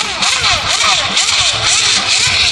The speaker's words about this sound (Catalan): És un motero que ens està perjudicant la tarda.